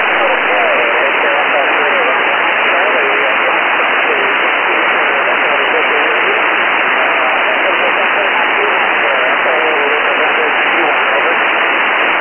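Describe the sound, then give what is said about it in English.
A faint voice of an amateur radio operator replying via the Oscar 7 satellite struggles through constant loud hiss and static, with the noisy radio signal continuing unbroken throughout. “I could barely hear you, but I actually got you. This is the first time I was able to contact anybody on Oscar 7, so fantastic.”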